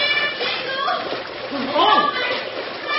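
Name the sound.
splashing in river rapids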